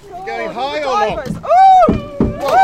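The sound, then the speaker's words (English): A few short bursts of water splashing, as from people diving in, break through excited, whooping voices that fill most of the moment. “Oh, can you hear all the splashing?”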